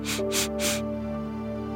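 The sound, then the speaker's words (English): Three quick nose sniffs in a row, sharp airy bursts taken as part of a calming breathing exercise, followed by quiet with a faint steady background hum. “Scrunch up your nose and three sniffs.”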